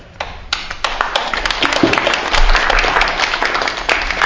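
One person clapping hands: a few separate sharp claps, then a quick, steady run of crisp claps that continues to the end, fairly loud, with no talking.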